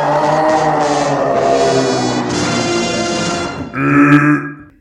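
A long, loud burp rumbles on for several seconds with a rough, low voiced tone, then shifts into a brief higher, strained finish before cutting off. No one speaks.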